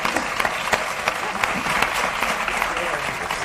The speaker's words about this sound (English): 4, 3, cue applause.